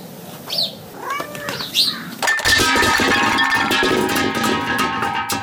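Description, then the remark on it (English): A cat meows a couple of times in short rising-and-falling cries, then a loud clattering crash breaks in as a curtain and its rod fall, followed by lingering metallic ringing. “Hey, who let the cat out of the bag? Don't worry about the cat.”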